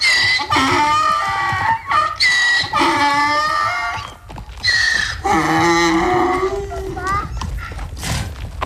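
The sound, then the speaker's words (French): Donkeys bray hoarsely and loudly, several rasping, see-sawing calls following one another with brief gaps across the whole stretch. “Un peu enroués vos ânes là,”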